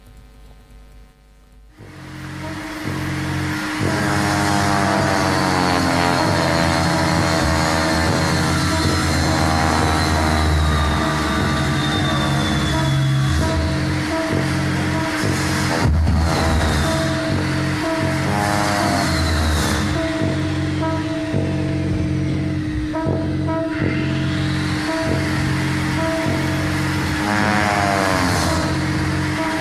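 The sound of a tree-felling chainsaw is played over loudspeakers in Maximilian Markol's composition Compound 3. It starts loud after a brief quiet moment and drones on continuously. Its buzzing engine pitch swells and the revs rise several times, with steady tonal layers held beneath it.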